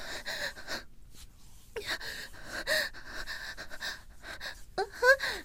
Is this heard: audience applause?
no